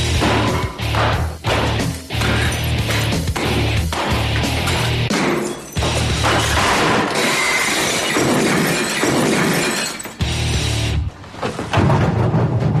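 A big glass wall is knocked down during demolition: loud glass shattering and crashing goes on almost nonstop, with repeated heavy thuds and bursts of breaking debris piling over one another. No one speaks.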